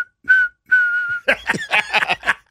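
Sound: person whistling a tune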